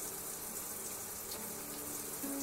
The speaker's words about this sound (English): Just focus on the warm water running down your skin, my body pressed against yours, and my hands massaging the shampoo into your hair.